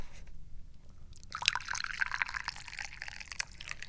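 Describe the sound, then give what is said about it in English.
Hot Dahong Pao tea pours into a teacup, a bright splashing trickle that starts abruptly after a quiet moment and continues steadily for a couple of seconds, with faint low background rumble. “And what are we pouring into the teacup today?”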